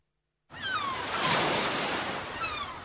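Sea waves wash onto a beach free of buildings in a steady, hissing roar that swells to a peak midway and slowly eases off. The sea is calm today. No voices are heard.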